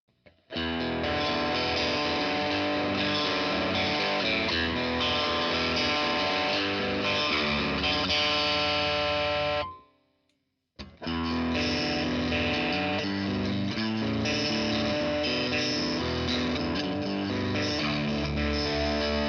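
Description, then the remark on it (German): A distorted electric guitar with single-coil pickups plays thick, sustained chords with light reverb, loud and close, breaking off briefly near the middle before resuming. No one speaks. “Das nochmal mit Single-Coils? Ja, oder? Machen wir jetzt nochmal mit dem Coils-Bild, klar.”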